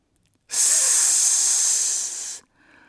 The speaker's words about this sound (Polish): Zasyczał wąż, unosząc z niepokojem gładki, łuskowaty łeb.